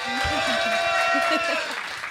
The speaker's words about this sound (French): Voilà. Ça, et ce n'est pas des applaudissements en boîte.